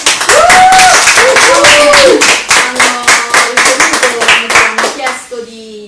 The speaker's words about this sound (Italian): Ottimo, vogliamo fare tutti un applauso!